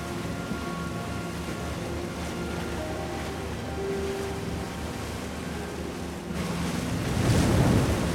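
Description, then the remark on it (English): A boat motors steadily across open water, heading out to sea, its engine droning beneath the rush of waves and wind buffeting the microphone, with a louder swell of splashing surf near the end. “cruise across the water, heading out to sea.”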